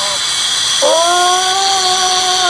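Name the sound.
angle grinder cutting metal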